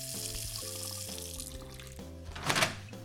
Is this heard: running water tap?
yes